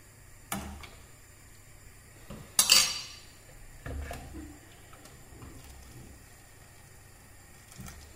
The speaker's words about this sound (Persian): تقریبا اجازه میدم گوشتم بپزه. در قابلمه ها میذارم. اجازه میدم گوشتم حدود 45 دقیقه تا یک ساعت بپزه.